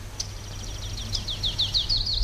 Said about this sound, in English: Who is it? It's a warbler. It's a warbler.